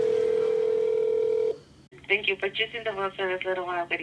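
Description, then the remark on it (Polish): A telephone call to the Tunnel of Love drive-thru wedding chapel in Las Vegas goes through: a steady, single-pitched line tone holds for about a second and a half, breaks off, and then a thin, phone-filtered voice starts talking. “On naprawdę dzwoni do kaplicy Tunel Miłości w Vegas.”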